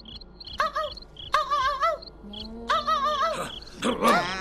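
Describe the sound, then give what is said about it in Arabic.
A small dog yaps and yelps in four strained, wavering bursts, loud with a hollow, echoing quality from inside a barrel that amplifies the sound, while crickets chirp steadily in the quiet night background. “ما هذا الصوت؟ إنه صوت الكلب الصغير.”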